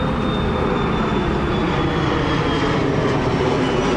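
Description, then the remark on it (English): A loud, steady roar of airplanes flying over near an airport, with a thin high-pitched engine whine that slowly drops in pitch, holding constant for the whole few seconds with no voices. “It's not just the airplanes, it's the train, it's the traffic, it's just an oppressive audio environment.”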